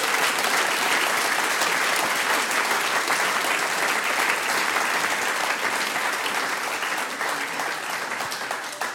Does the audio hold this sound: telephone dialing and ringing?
no